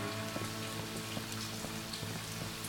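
Heavy rain pours steadily as mourners follow the coffin of Colonel Thomas Swope to Forest Hill Cemetery in Kansas City, a dense continuous hiss with scattered drops pattering on a hard surface, no voices present.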